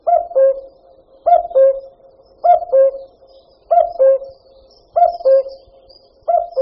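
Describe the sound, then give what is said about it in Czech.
A common cuckoo calls its two-note "cu-coo" six times in a steady rhythm, each call clear, with a short pause between repeats and no other sounds around it. “Až uslyšíte na jaře svoji první kukačku, popřejte nejen sobě, ale i té kukačce ještě hodně let života.”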